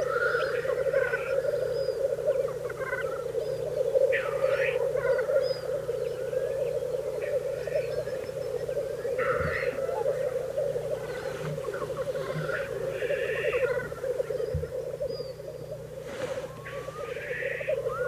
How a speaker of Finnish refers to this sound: Tässä teeret puputtavat ja kaikkein lähimpänä menee sitten kuovi.